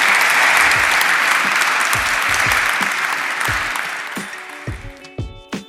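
A sustained burst of audience applause, dense and loud at first, then gradually thinning out into scattered individual claps as it fades toward the end.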